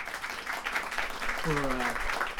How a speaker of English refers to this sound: So let's give Terry a round of applause. Just let's thank him.